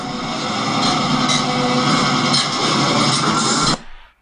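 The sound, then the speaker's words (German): A diesel locomotive engine, as shown at the International Railway Technical Exhibition in Seddin, drones loudly and steadily, a dense rumbling roar with a constant tone running through it, then stops abruptly after nearly four seconds. “Und Diesellokomotiven.”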